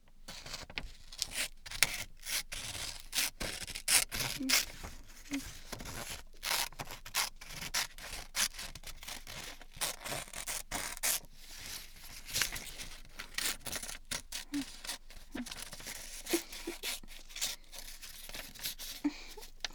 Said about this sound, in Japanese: じゃ、これ折り紙があるので、これを切りますね。